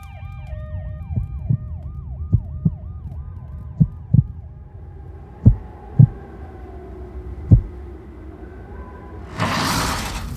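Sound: ambulance siren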